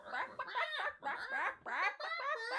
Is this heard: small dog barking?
no